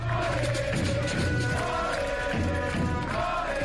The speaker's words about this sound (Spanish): Así eran recibidos los jugadores en Sar antes del partido y después de un partido con victoria amarga, un largo aplauso los despedía.